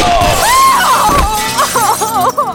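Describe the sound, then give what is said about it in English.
A loud crash of a glass display counter shattering as a bullet hits it, bursting into a dense spray of breaking shards that rings and tinkles for a couple of seconds before trailing off, with no voices. “Glass shattered in the counter behind the astonished Patty as he dropped his pistol and slid to his knees”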